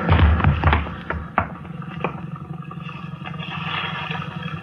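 A boat's rail breaks while a man braces against it, with a heavy thud and a quick run of sharp cracks and splintering knocks, then a steady rush of water carries on underneath. No voices.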